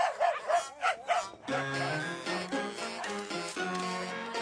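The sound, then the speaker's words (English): Two dogs let out a quick burst of about four sharp barks in rapid succession, then music takes over and continues to the end. “The dogs had to have sensed something.”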